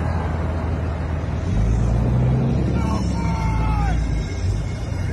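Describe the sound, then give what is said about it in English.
Heavy trucks and tractors rumble through Luckett, going around a police barricade, in a steady low drone that swells louder after the first second and a half, with a few whining engine tones rising and falling over the noise. “Truckers going through Luckett.”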